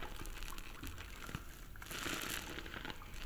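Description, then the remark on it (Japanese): Crinkly, wet squishing of plenty of soap being lathered into foam right by the ears, a continuous soft crackling texture with bright fizzy highs that swells louder in the second half. No voices. “このクシュクシュする音もお耳に気持ちいいから。”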